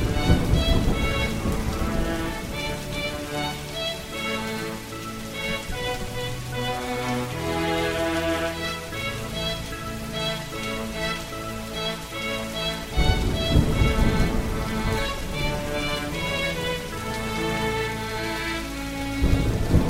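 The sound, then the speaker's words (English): Steady heavy rain hisses throughout with deep thunder rumbling underneath, swelling to a louder burst about two-thirds of the way in, while soft tonal music plays beneath the storm. “I wonder, I wonder, I wonder, yes, I wonder, where does the rain come from?”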